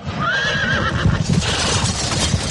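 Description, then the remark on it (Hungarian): A horse gives a high, wavering neigh as a horse-drawn carriage comes to a stop, with rumbling wheels and a few hoof clops underneath, and no one speaking. “Állítsa meg, kérem, a kocsit!”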